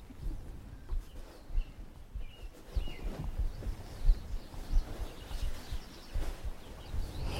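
Faint birdsong drifts in scattered chirps over a low, rumbling outdoor background, with no one speaking.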